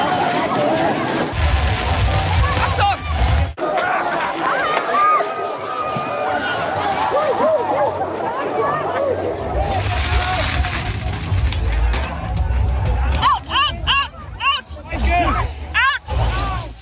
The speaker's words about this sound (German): Okay, das klang schon mal, also man hat den Feuerwerkskörper gehört, ne?